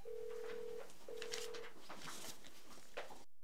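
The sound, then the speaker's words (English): A telephone is being dialed: two steady tones come through the handset, followed by a busy scatter of clicks and button beeps, fairly quiet, with no one talking. “I'm going to tell them to hold phone calls.”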